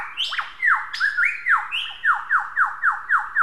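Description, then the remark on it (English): Lyrebird whistle song: a few clear, sweeping whistles that rise and fall, then a quick run of about seven repeated downslurred notes, bright and ringing, with no voices. “They produce their own vocalisation, so they produce their beautiful whistle song.”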